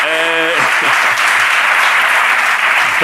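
An audience applauds loudly for a guest on a programme, a dense and steady wash of clapping that holds for about three seconds, with a brief voice heard at the very start.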